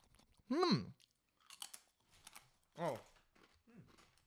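Crunching as someone bites and chews a pretzel, a few short crisp bursts spaced out, broken up by a couple of brief voiced murmurs between bites.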